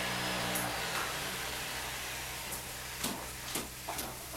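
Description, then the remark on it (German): A vacuum cleaner's steady whooshing motor hum with a low tonal drone fades out after about a second as it is switched off, leaving a softer hiss with a few light clicks and knocks. “Augenblick, Mutti, ich schalte den Staubsauger aus.”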